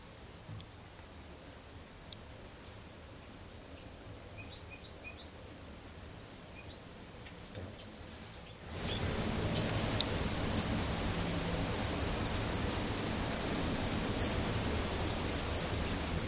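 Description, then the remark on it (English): A bird sings in short, high, chirping phrases repeated at intervals over a steady hiss of background noise. The hiss grows noticeably louder about halfway through, and the song continues over it. “273 here in song.”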